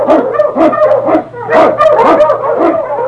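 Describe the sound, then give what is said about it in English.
A pack of husky sled dogs barks and yelps excitedly, loud overlapping bursts coming close together in a steady, continuous clamor, with no talking. “Huskies! The Wonder Dog King, swiftest and strongest of Eskimo lead dogs, blazes the trail through storm and snow for Sergeant Preston as he meets the Challenge of the Yukon.”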